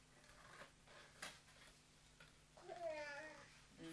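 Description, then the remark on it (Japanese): A single drawn-out cat meow rises and falls near the end, fairly clear, over quiet with faint rustling and a few soft clicks beforehand. “にゃーにゃ”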